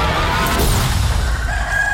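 A rooster crows loudly, one long drawn-out call ending on a sustained high note, over a dense, rumbling background. No one speaks.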